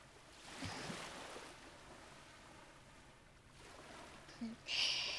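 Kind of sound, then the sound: nature, ocean waves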